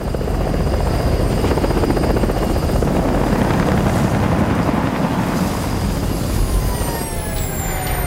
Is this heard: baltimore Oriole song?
no